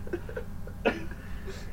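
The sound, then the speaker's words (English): A single short, sharp cough bursts out, brief and fairly loud against a low background hum, with a couple of faint vocal noises around it. “Those coughing sounds brought it all home.”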